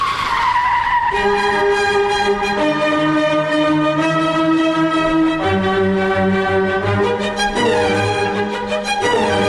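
A long, loud screech of car tires skidding under hard braking, a sustained shrill squeal that shifts in pitch several times over about nine seconds, with no one talking.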